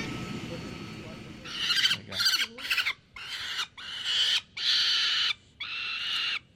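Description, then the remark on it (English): A 22-day-old female peregrine falcon chick, taken out to be fitted with a color leg band, gives a series of harsh, high-pitched screeching calls, about seven loud bursts in an uneven rhythm with short gaps between them, and no talking over them. “So here we have a baby peregrine falcon.”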